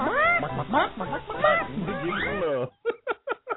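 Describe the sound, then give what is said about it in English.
Chickens squawk and cluck in a dense, overlapping flurry, then four short, sharp clucks come in quick succession. The sound is fairly loud and narrow, like a phone line, with no talking. “Yeah, you did got the chickens.”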